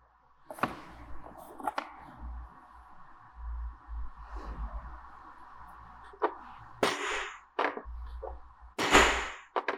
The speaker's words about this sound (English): And it sounds so much different at home because this material is different. Oh yeah, you can hear which ones you're stamping harder. Yep. I did the eye really soft because it has less surface area.